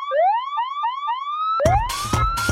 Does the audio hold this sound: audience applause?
no